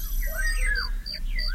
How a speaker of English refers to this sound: Cricket.